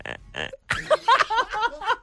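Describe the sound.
A person in KZN imitates a hippo's call: two short buzzing grunts, then a louder stretch of rough, belching honks and wheezing pulses that break up rhythmically toward the end.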